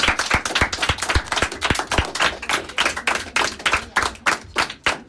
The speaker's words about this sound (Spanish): Oye, chicos, ¿no parece que la ha hecho muy bien la profe? Un fuerte aplauso, ¿no?